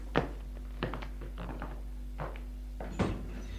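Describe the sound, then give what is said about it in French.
A bedroom door being opened, heard as a handful of dull knocks and clicks from the latch and handle spread over a few seconds, with a low hum underneath. “Et il va ouvrir la porte de la chambre.”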